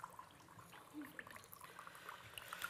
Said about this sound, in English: And the first cup we're going to pour here, I'll ask my Abba to pour his one and my one, and I'll get you guys to undo that one and each pour yourselves a little bit of grape juice in there.